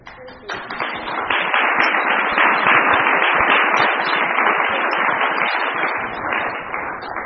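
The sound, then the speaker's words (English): An audience at Cornell applauds steadily to celebrate efforts to make Cornell a better place, a dense wash of many hands clapping that swells quickly and holds at a strong, even level for several seconds before thinning slightly at the end. “So, my rambling comes to an end where I invite you to take a moment to join me in appreciating, applauding, and celebrating all of our efforts to make Cornell a better place for all.”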